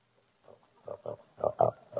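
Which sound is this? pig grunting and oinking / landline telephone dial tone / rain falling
pig grunting and oinking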